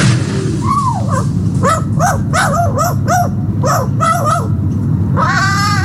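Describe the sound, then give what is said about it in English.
A magpie, sitting alone and mimicking a dog's bark, gives a quick run of sharp, dog-like barks, about nine in a row, loud over a steady low rumble of background noise, with a longer bark-like call at the end. “The magpie, after spending much of her life in the company of Peggy, now appears to mimic the sound of a dog's bark when cawing.”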